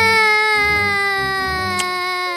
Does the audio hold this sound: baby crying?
yes